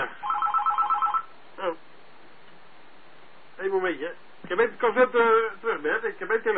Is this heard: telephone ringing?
yes